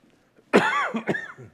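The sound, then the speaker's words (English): A loud cough bursts out after a brief quiet moment, followed quickly by a second, shorter cough and a rough throat clearing that trails off. “Sorry, I've got a cough.”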